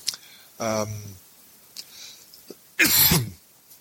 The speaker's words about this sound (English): I think as it gets later, my cough is getting worse. I should probably go to sleep.